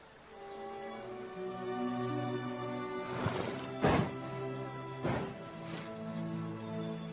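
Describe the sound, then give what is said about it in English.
A horse neighs with a long, harmonic whinny while a few heavy hoof thuds land, suggesting the animal moving quickly. No one speaks. “He just needs to learn how to be a horse again.”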